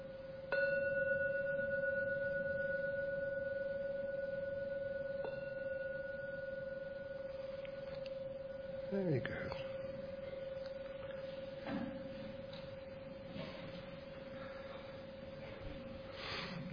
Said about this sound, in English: I will now ring the gong 3 times. Please listen. And at the end of the 3rd ringing, open your eyes.